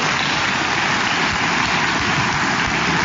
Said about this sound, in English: It's our first sound effect. It says, SFX applause.